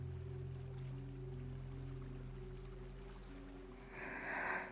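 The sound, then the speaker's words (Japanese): Gentle ocean waves lap softly over a steady low engine drone, with a brief, louder wash of water swelling near the end. No voices. “今日は海の安全日なので、比較的揺れが穏やかなんです。”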